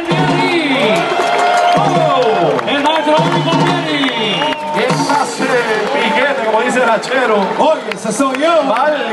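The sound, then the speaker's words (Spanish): A large crowd cheers loudly, whooping and shouting over steady applause for the piano rumbero at a tribute to him; the applause holds strong for the whole stretch. “Fuerte el aplauso para el rumbero del piano, maestro.”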